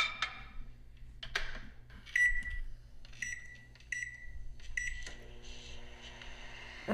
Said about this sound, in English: Okay, just put it in the microwave.